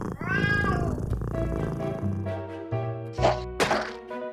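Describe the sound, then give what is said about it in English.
A single drawn-out meow from an orange cat rises and falls at the start, clear, followed by sustained musical tones and a couple of soft percussive hits. “K is for cat.”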